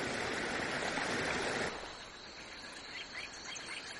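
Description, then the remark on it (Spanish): River water rushes steadily past a rock that forms a natural barrier dividing the river, loud at first, then drops to a softer flow while small birds chirp faintly above it. “Esta roca es una barrera natural que divide el río.”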